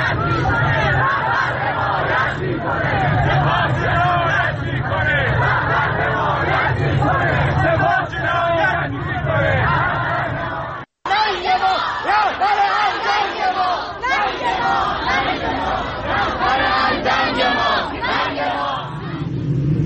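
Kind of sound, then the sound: crowd, protest crowd chanting slogans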